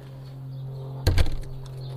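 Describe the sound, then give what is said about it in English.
A door shuts with a single solid thump and a brief rattle over a steady low hum. “Let me shut this door.”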